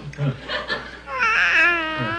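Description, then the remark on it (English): A baby whimpers and fusses in a short, wavering cry that rises to a higher, strained wail before trailing off, moderately loud, with some background hum. “Was that an awake sound or a sleep sound?”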